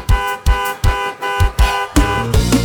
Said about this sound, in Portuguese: Assim ó, se ela não vir eu continuo buzinando.